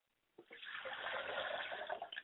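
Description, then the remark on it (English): Water is poured out onto the ground as a libation in a steady, splashing stream for about two seconds, with a brief gurgle at the start and a few drips as it ends. “And wherever the water hits the ground, may it take up root, and may it spring up and grow.”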